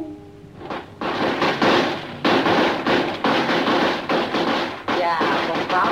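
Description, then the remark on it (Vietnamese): A string of firecrackers set off for Tết, the Lunar New Year, to drive away bad luck, goes off in a loud, continuous barrage of sharp cracks and pops, dense and rapid for about five seconds after a brief quieter start. “Quá ta đó nổ như vậy nghe mới đã tai chứ.”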